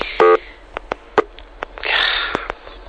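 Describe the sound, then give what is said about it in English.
A single short telephone keypad tone sounds on a Radio Shack phone as a caller is conferenced in, followed by a series of sharp, irregular button clicks and a brief burst of hissing line noise. No one speaks. “Jim Baker's on the other line here. You were talking to him? Yeah, he called me. I just conference him in here.”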